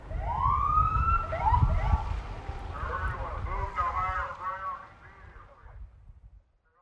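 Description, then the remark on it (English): Sirens of fire and police vehicles driving through neighborhoods wail and then switch to a rapid yelp, fairly loud over a low rumbling background, before fading out near the end. “That approach included Nixol emergency alerts, tsunami sirens, and fire and police personnel driving through neighborhoods with sirens blaring and lights flashing.”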